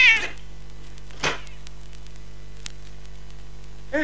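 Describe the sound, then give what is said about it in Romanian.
A tomcat meows in short, separate cries, one at the start, a sharper one shortly after, and another near the end, over a steady electrical hum and faint static. “Hai, pleacă, motane! Pleacă, motane, că de nu se știi că-mi fac căciulă din blana ta!”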